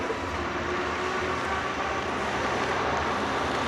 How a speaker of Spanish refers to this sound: Llega su coche.